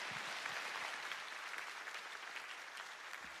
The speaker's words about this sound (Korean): 우리 귀한 선교사님, 우리 하나님께서 힘내십시오. 큰 박수로 우리 모시도록 하겠습니다.